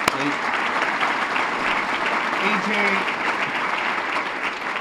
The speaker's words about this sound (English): Thank you to the Chamber of Commerce. If I could have a round of applause for everybody at the Chamber staff